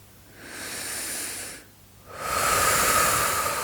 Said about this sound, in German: Und schließe deine Augen und fang an zu atmen, bewusst zu atmen. Atme tief bis in den Bauch hinein und atme tief wieder aus.